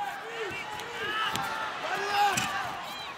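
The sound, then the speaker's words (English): A fighter crashes into a metal cage door with a couple of sharp clattering bangs over steady arena crowd noise, moderately loud. “went clattering into the cage door there.”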